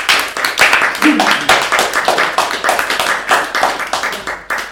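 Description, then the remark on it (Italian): A crowd applauds steadily for several seconds for those who could not be there that evening, a dense, loud patter of many hands clapping at once, with a faint murmur of voices mixed underneath. “Un applauso a chi non è potuto essere qui con noi.”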